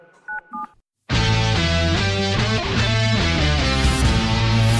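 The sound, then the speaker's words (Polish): Two quick touch-tone keypad beeps of a phone number being dialed, clear and alone, followed after a short pause by a loud burst of music. “Jak zgarnia mnie pies, no to szybko dzwonię do papugi, a ty pewnie z płaczem dzwonisz do tatusia.”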